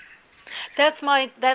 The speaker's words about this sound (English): That's my parakeet. That's Birdie Bird. he's a permanent guest on the show.